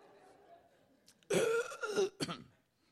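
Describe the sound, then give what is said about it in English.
Someone coughs hard after swallowing wrong: a loud, raspy, spluttering burst followed by a short sharp second cough, with no talking. “Sorry, that went down the wrong hole, that one.”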